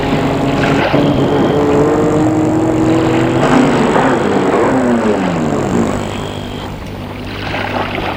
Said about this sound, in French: Une voiture, elle voit une voiture qui passe à l'instant.